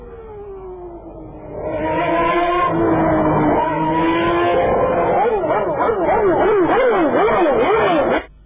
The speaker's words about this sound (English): Yeah, the lovely sounds of a Ferrari Formula 1 car.